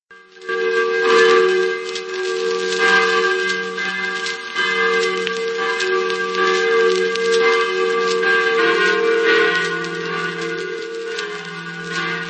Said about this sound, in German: So klangen die früheren Glocken der Wenzelskirche im ostböhmischen Dobruška auf Deutsch Gutenfeld. Die drei Exemplare stammten aus der Gießerei von Rudolf Manauschek in Brünn. Sie waren erst 1931 in der barocken Kirche installiert worden.